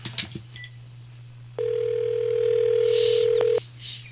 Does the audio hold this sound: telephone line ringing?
yes